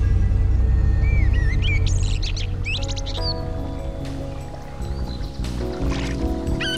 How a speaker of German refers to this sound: Ich sitze gerade auf einem Stein am Waldrand in der Nähe eines plätschernden Baches irgendwo in den Rocky Mountains, kaue auf einem trockenen Stück Brot herum und beobachte immer wieder den Himmel.